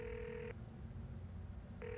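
An outgoing call's ringback tone as Kungu, a building landlord, calls a businessman known as Rich Richie from his office: a steady electronic burst, a pause of over a second, then the tone starting again, heard over a low rumbling background with no voices.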